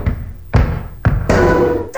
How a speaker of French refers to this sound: T'as claqué la porte avant de partir. C'est pour ça que t'es rentré dedans, niaiseux.